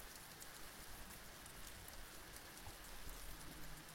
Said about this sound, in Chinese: 而且外面还在下雨，下雨不是睡觉的最好天气吗？